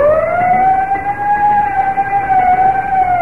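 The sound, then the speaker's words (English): A fire engine siren and bell sound steadily and loudly, the siren's pitch drifting slightly up and down over a few seconds, with no one talking and no other sounds standing out. “Whenever you hear the siren and bell, think of Texaco Fire Chief gasoline.”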